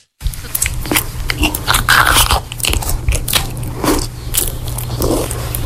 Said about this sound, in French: Alors, c'est pas loin, mais effectivement, c'est quelqu'un qui mange. Ah, ça me dégoûte.